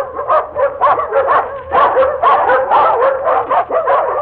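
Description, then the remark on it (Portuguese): A pack of hunting dogs barks and yelps continuously while running through the woods during a hunt, many overlapping voices in a steady, excited chorus heard from afar, with no talking. “Dali a instantes, ouviu-se ao longe os latidos da matilha que vinha de corrida feita.”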